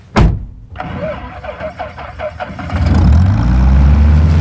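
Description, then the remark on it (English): The small plane Bessie, just given a tune-up, starts up at the hangar: a sharp click, then about two seconds of rhythmic starter cranking before the engine catches and settles into a loud, steady low roar. “Ah, there she is, my trusty plane Bessie.”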